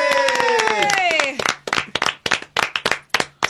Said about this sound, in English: Okay, now everyone clap. You ready? All right. Yay!